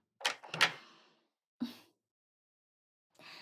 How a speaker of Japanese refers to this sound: ほら、鍵開けたから、こっちの部屋来て。